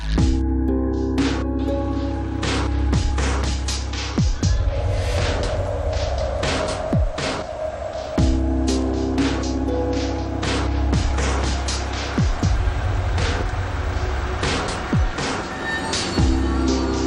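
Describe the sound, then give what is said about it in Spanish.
A car approaches, its engine rumbling with a steady low, throbbing hum, while scattered clicks and knocks cut through the constant drone. “Un coche se acerca.”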